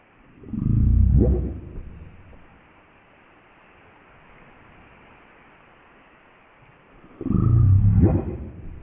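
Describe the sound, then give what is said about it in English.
Two deep, burping calls of southern resident killer whales, one near the start and one near the end, rising out of a quiet hiss of underwater background noise with a long pause between them. “This is sort of burping, deep sound that they make. This is the southern resident killer whales.”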